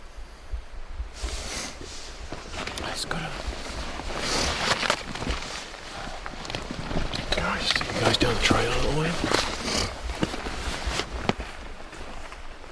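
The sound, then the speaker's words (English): Footsteps of a person walking back through trees toward a trail crunch and rustle through brush and twigs at an uneven pace, with scattered sharp snaps and a steady outdoor background hiss. “I step back through the tree.”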